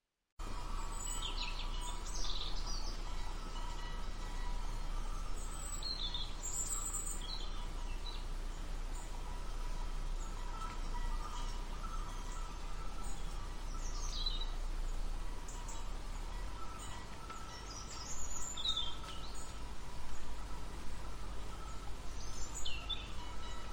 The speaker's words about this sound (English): "Help me, please," the nightingale chirped softly.